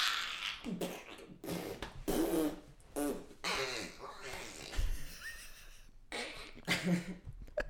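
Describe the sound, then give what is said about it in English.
A voice makes wet, sputtering blood-splatter noises with the mouth in a rapid series of bursts, fairly loud, with a fart-like raspberry quality and brief pauses between spurts. “Is that convincing blood splatter noises?”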